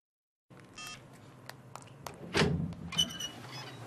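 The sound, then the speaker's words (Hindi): A phone being dialed to call someone: a run of short, crisp key-press beeps, a soft thud, then a steady electronic call tone starting; the phone being called is switched off. No one speaks. “Phone करो उसे और कहो कि हम उसकी मंगनी के लिए आए हुए हैं।”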